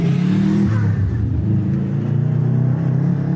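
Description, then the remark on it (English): A car engine revs up loud, its deep rumbling pitch rising and falling over a few seconds before settling into a steady, throaty hum. “when the car's running happy, I'm happy”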